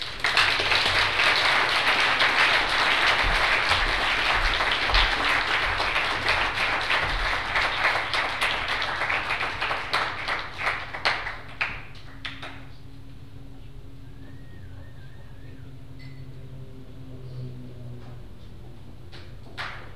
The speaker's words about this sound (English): Can we get another round of applause for both of them?